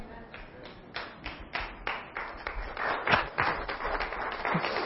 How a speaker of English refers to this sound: Amen. I hope that clap is genuine.